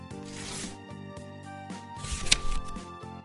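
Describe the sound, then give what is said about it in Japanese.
A pure white paper envelope, handed over as a letter and holding one message and two sticks of gum wrapped in silver paper, is torn open in two crisp, rustling bursts, a short one early and a longer, louder rip later, over soft sustained background music. “真っ白な封筒を開けると1枚のメッセージと銀紙に包まれたパッケージの内ガムが2枚入っていた。”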